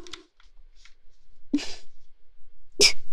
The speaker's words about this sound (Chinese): 真的好痒，好痒，快忍不住了。不行，不能打喷嚏，再怎么男人也得忍住啊。